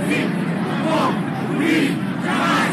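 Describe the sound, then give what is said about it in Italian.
A huge crowd of about a million people in a square in Lisbon on 1 May chants the slogan «O povo unido jamais sarà vencido» in unison, a dense wall of many voices rising and falling in steady rhythmic surges, loud and continuous throughout with a roaring, shouted quality. “Il 1 maggio, in occasione della festa dei lavoratori, a Lisbona scendono in piazza 1 milione di persone al grido di «O povo unido jamais sarà vencido».”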